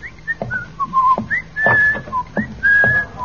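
A person whistles a short, lilting tune of quick rising and falling notes, clear, with several longer held tones and no talking.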